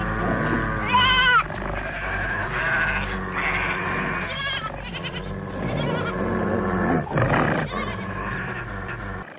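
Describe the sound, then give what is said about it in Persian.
A flock of sheep bleating loudly and continuously, many overlapping wavering cries, with no talking. “بیچاره گوسفندا از بین میرن.”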